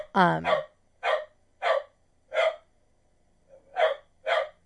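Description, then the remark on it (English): A dog barks at a cat sitting on a box, about seven short, sharp bursts at a steady pace, with a brief pause before the last two, fairly loud, with no talking over them. “The cat is sitting on a box, and the dog is literally barking at it.”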